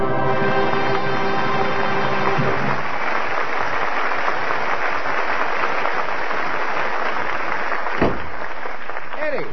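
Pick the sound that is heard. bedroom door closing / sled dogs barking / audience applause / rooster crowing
audience applause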